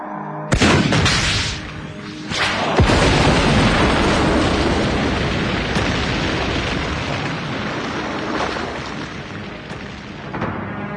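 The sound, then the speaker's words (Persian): A helicopter explodes after being hit by an RPG shot fired by Sattar: a sudden loud blast, then a second sharp burst, followed by a heavy, sustained roaring rumble that carries on loud with no talking. “این بار شلیک ستار به هدف میخوره و هلیکوپتر منفجر میشه.”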